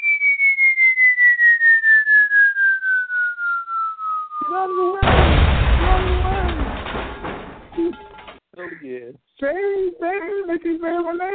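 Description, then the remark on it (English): A long, steadily falling whistle like a dropping bomb glides down for several seconds, then a loud, rumbling explosion bursts in and fades, with rhythmic vocal sounds before and after. “I said the whistle on that bomb was crazy.”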